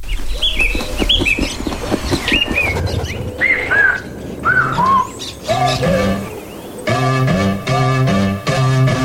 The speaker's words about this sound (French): pour cette pause musicale, on va écouter une musique de … avec …